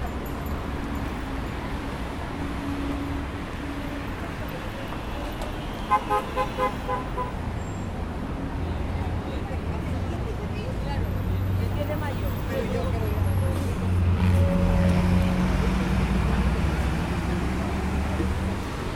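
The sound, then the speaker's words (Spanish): Busy street traffic in central Santiago, Chile, near Santa Lucía metro station at about 7:30 in the evening, with a steady low rumble of buses and cars passing, buses the loudest, a couple of short car horn toots early on, and faint voices mixed into the din. “2 autobuses son lo más ruidoso.”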